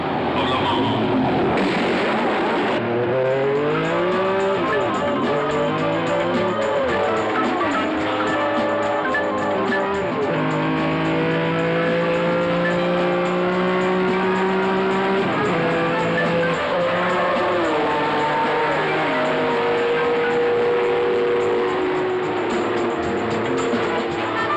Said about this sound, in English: And so, ladies and gentlemen, welcome to the most famous motor car race in the world, the 38th running of the Grand Prix of Endurance and Efficiency, the 24 hours.